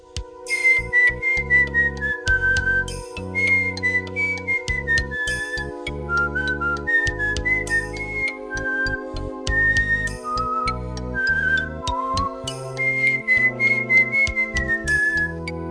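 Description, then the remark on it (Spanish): A lone whistled melody drifts slowly up and down over steady instrumental backing, the wistful tune carried in long, sliding notes throughout with no talking. “en lugar de enfrentar la situación, se aleja de ella, se va del hospital, se mete a caminar por callejones oscuros, entre tachos de basura y gatos marca perro, silbando un aire triste.”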